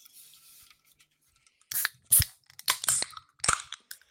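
A can of a tequila drink being opened: a quiet rustle, then a quick series of sharp metallic clicks and a crisp pressurized pop with a brief hiss. No one speaks.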